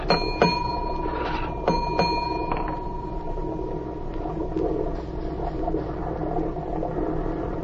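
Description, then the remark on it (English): A ship's engine room signal bell rings with bright, ringing metallic strikes, one and then a quick pair, each tone lingering briefly over a steady low engine rumble. No one speaks. “I know engine room signals.”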